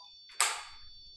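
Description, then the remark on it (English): A REM pod alarm by a door gives off a steady, high electronic tone, while a sudden burst of hissy noise flares midway and fades over the next half second. No one speaks. “The rem pod's going off over by the door.”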